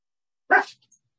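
A single sharp, loud dog bark, followed by a faint short yip, with silence around it.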